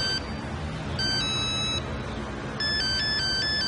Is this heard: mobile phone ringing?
yes